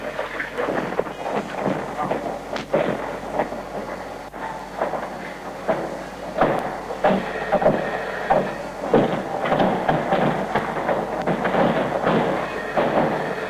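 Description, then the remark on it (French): Doors are being forced and broken down during a live radio broadcast on 28 August 1983, amid tear gas: loud, irregular thuds and cracking impacts strike again and again over a continuous rumbling, chaotic din that never settles. “Il semble-t-il, ils essayent de défoncer en ce moment donc les portes.”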